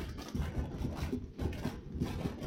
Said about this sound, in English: Hey, all you college fans, let me hear you clap your hands. Now that you've got the beat, let me hear you stomp your feet.